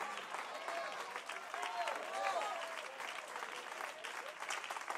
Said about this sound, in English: Oh, well, I got a little Sunday night golf clap going on.